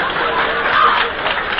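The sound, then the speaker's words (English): A dense, steady wash of clapping from an audience after a joke, sustained and fairly loud throughout with no pauses, with no talking over it. “Don't applaud.”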